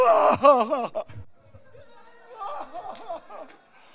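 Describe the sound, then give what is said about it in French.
A voice breaks into loud, theatrical wailing with wavering sobs for about a second, then drops to quieter moaning and whimpering cries that rise again before fading out. “Attends, on va faire la scène, là. Pleurer un bon coup, là.”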